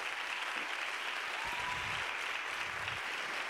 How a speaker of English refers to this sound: And also, if you spoke just now in our breakout sessions, will you please stand? I want us to give them a round of applause, because